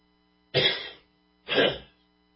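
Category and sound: human body sound, coughing and throat clearing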